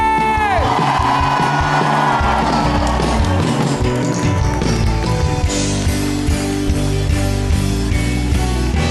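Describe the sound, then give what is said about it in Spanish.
A church audience gives a shout of faith, cheering loudly for several seconds, a dense, sustained roar of many voices over steady musical tones. “Dele un grito de fe.”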